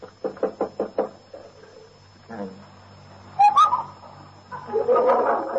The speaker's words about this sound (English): Knock on his door. He'll probably still be in bed.